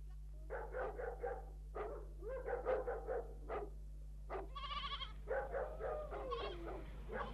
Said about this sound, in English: He told me to bring the sheep over the side, and here they are. All right, your master's coming.